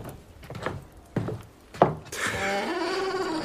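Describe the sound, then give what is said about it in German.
Three or four heavy, irregular knocks on a wooden door after midnight, each a dull thud, followed by a long, steady whining tone that holds to the end. “Ein später Besucher, der da an meine Tür klopft.”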